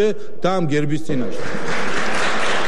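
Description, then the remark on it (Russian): Parliament speaker Papuashvili speaks for about a second before a burst of dense, steady applause from his fellow party members in parliament drowns him out and continues loudly to the end. “Здесь спикера Папуашвили однопартийцы перебили аплодисментами.”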